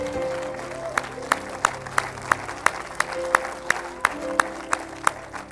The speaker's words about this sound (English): Let's give the Lord Jesus a great big hand clap of praise.